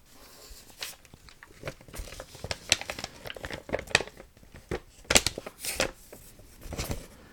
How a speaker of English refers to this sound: Hey, we're having a nice time here. Folding paper cranes.